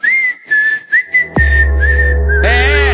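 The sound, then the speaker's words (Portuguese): Someone whistles a short tune in a clear, high tone, a few quick phrases of a song melody rising and falling, before a loud, deep electronic bass tone and music cut in. “tem aquela música lá? Que faz assim, ó.”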